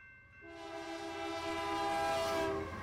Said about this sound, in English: Henry, wait! Don't get on that train!